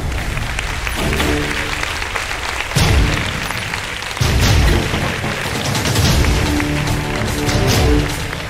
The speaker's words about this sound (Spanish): Y está por aquí alguien que siempre mira como sospechando, que además tiene muchas preguntas. Quiero que le deis un aplauso a Gloria Serra.